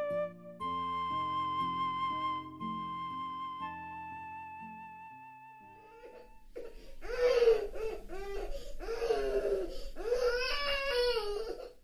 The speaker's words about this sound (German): Hast du es auch gehört? Da schreit ein Baby in der stillen Nacht. Hörst du es?